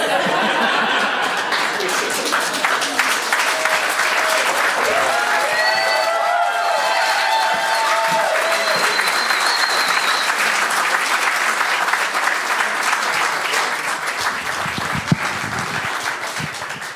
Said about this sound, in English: Let's give her another big round of applause. And a little round of applause for all the men.